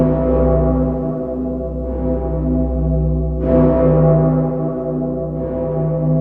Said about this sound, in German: Das akustische Wahrzeichen von London, der Glockenschlag des Big Ben.